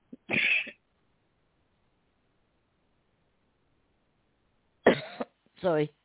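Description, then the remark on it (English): A single harsh cough from a person who has lost their voice, then several seconds of near silence before two more rough coughs with a raspy throat-clearing quality. “I'm sorry, but I've actually completely lost my voice now. Coughing.”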